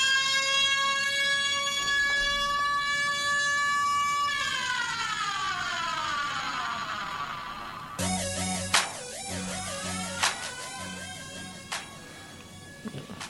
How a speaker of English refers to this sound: The fire alarm. Oh, is that a fire alarm? That sounds like a fire alarm.